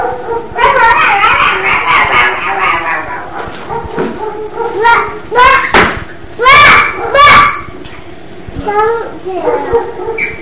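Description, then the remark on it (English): A dog named Eugen barks several times in short, sharp bursts, fairly loud, after a stretch of high, drawn-out vocalizing, with a child's voice audible in the background. “Oh, there goes Eugen barking.”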